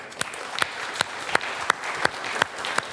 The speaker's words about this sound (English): And I think that he deserves a round of applause.